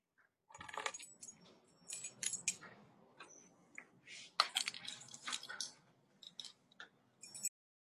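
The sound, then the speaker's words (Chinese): A bunch of keys jingles and clinks for several seconds, in bright metallic bursts of rattling that rise and fall as the keys are handled while being handed over, with no voices. “你的钥匙。”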